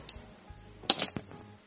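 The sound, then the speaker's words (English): Dice clatter and clink against a hard surface in a short, bright burst of rattling taps, moderately loud, then settle quickly into a quiet background; the dice are rolled to decide who goes first in a game. “Best 2 out of 3 on the dice roll.”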